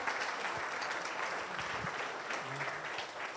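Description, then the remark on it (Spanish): A church audience gives applause to Jesus, a steady, dense wash of clapping that holds at an even level for a few seconds, with a few faint voices mixed in underneath. “Si el día de hoy venimos a Central, así es, le podemos dar un aplauso a Jesús.”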